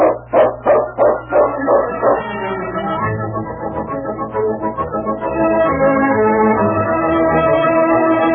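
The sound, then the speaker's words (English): The dog King barks about seven times in a quick, steady run lasting a couple of seconds, fairly loud, in a Sergeant Preston radio drama. Then swelling orchestral music takes over for the rest. “It's a wonderful dog.”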